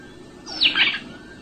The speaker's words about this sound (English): It's the Cape sparrow. The Cape sparrow giving its flyaway call, not when disturbed. You have male and female sitting together, and all of a sudden the one says to the other, goodbye, and he flies away.